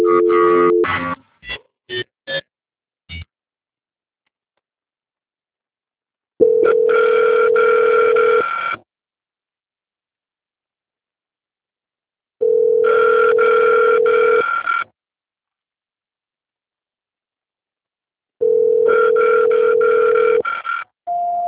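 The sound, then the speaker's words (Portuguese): A telephone ringback tone repeats in long, steady bursts of about two seconds with silent gaps, preceded by a quick series of short dialing beeps, and no one picks up; it is a call to São Paulo that is not being answered. “Ah, é porque eu estou na ligação, só que o São Paulo não está atendendo.”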